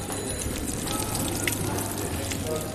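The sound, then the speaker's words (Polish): Iron-rich medicinal mineral spring water pours in a steady, continuous stream, a constant rushing splash with no pauses, like a spout running into a basin. “Najlepsza woda jest ze źródła Celińskiego, woda lecznicza. Żelazista.”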